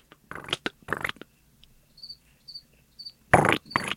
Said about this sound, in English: It's usually nice and cool, so I had to open up a window. But welcome the crickets to the show, by the way. Yeah, now yeah, I have a background music.